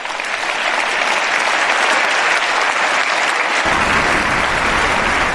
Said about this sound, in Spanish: hemos podido sentir la emoción que se ha vivido, especialmente cuando los eurodiputados y eurodiputadas han comenzado a aplaudir y se han puesto de pie, todo el Europarlamento en pie ante nuestras campeonas.